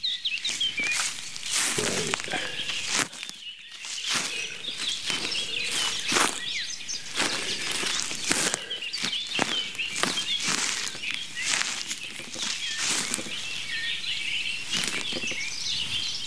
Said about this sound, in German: Und ich mache jetzt mal Schritte. Moment. Ihr könnt mitzählen. Das war der erste.